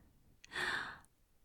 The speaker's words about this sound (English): You kiss my neck. You lift my hair up so your hands can caress my shoulders, and your warm lips touch my skin, and I hear myself give a little gasp.